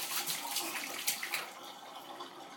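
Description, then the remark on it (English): Bath water drains from a tub after a bath, with a steady rushing and gurgling that holds fairly even, easing slightly toward the end. No one speaks. “saying bye to his water, and it's going bye-bye. He had a bath.”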